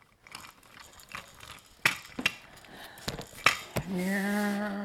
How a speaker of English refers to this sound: That's a nice car, you can chew that one. Those wheels look so tasty.